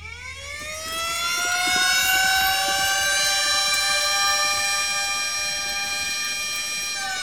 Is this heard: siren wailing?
yes